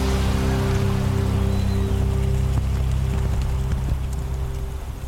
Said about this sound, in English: It is literally a dust storm right now.